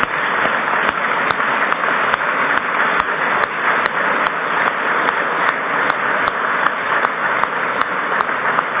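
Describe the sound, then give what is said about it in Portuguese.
A crowd claps steadily for several seconds in tribute to the late members of the Constituent Assembly, a dense, even wash of many hands with no voices over it, holding at a constant level from start to finish. “Eu queria pedir uma salva de palmas para os constituintes que já não estão entre nós.”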